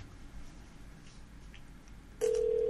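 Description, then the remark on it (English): Faint line hiss gives way near the end to a loud, steady ringback tone as an outgoing phone call to KM Auto Service, connected through a soundboard, starts ringing on the other end. Nobody speaks. “Oh, it's ringing. I can hear it. It's ringing.”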